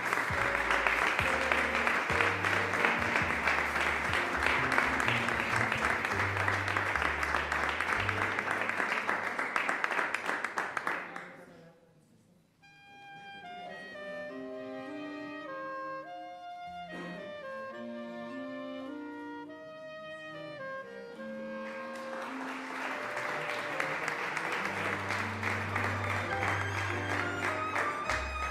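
A crowd applauds loudly and steadily for several seconds, breaks off for a short melodic musical interlude with clear tones, then the clapping rises again and carries on to the end.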